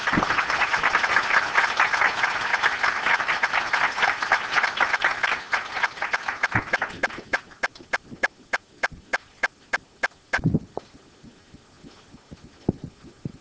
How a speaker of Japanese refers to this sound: 林秀臣先生、素晴らしいご講話誠にありがとうございました。改めまして林先生に感謝の拍手をお願いいたします。